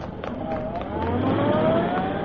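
car driving away

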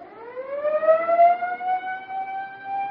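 siren being tested

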